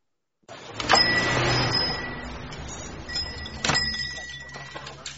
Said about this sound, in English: Rita, Vi, and Mary Ellen are seated at their usual spot in Junior's restaurant when the door opens and a newcomer walks in.